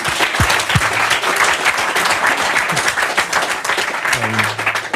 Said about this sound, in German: Bitte einmal Applaus für die Partner, die uns das ermöglicht haben.